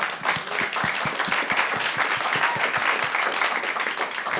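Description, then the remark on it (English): A crowd applauds steadily, dense overlapping claps forming a continuous wash of sound with a few sharper individual claps standing out, fairly loud and close, with no talking. “could have ended with applause, and I stepped on it with all my stupid comments.”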